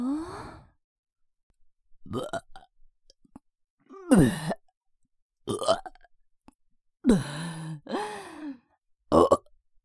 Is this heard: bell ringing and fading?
no